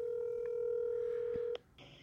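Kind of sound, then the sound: signal or alarm, phone call ringing tone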